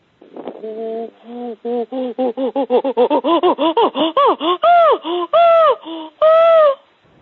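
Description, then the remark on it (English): A person imitates a chimpanzee pant-hoot, the distance greeting call, holding the phone away because it is loud: breathy voiced hoots that quicken and climb in pitch, building into several long, loud, high-pitched calls at the climax, with no talk over it. “With the distance greeting call, the pantoot, we call it.”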